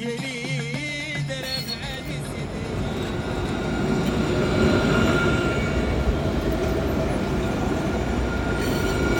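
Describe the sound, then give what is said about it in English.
A tram with photos of Morocco's World Cup players on its side rolls past on a street in Rabat, Morocco: a rising rumble of wheels on rails with metallic tonal whines and squeals, growing louder and staying steady for several seconds, no voices. “But as a tram goes past me here in Rabat, with photos on the side of it of Morocco's World Cup stars in their red and green shirts”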